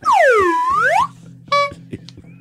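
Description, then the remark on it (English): A loud, swooping boing-like slide rings out for about a second, then one short, bright horn honk follows over a low steady hum; no one speaks. “Oh, gave that a honk?”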